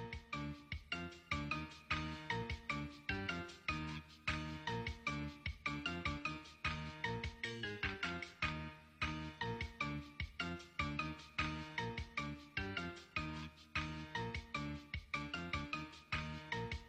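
phone ringing

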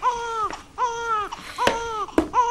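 child crying

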